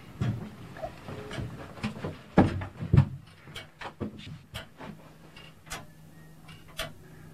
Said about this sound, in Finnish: Onko se sekunnin välein tuo naksu? Kyllä. Tämä on sekuntiheiluri, eli sekuntien naksaus aina. Että ja puuvartinen heiluri, niin ei tuota, lämpötilat ei vaikuta heilurin pituuteen. 1885, joo. Se on 136 vuotta.